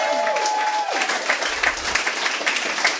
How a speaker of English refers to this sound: Because we're here at Nerdist Industries at Meltdown Comics, right? How about a round of applause for those guys?